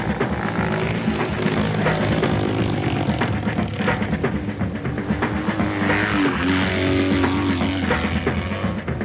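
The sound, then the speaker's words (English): A motorcycle engine runs steadily and loudly, its droning rumble holding a constant throttle with slight shifts in pitch throughout, no voices present. “Let's climb on our motorcycle and stand up with legs apart.”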